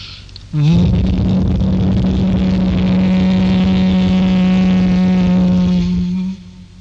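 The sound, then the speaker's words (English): A single sustained, steady vocal hum on one low pitch, buzzing like a bee, starting abruptly and holding loud for about six seconds before stopping; a human voice chanting the 'm' (makara) sound of Om, the brahmari hum imitating a bee's drone. “And makara or brahmari, the humming sound of a bee, the whole body experiences a fine massaging effect with complete resonance throughout the body.”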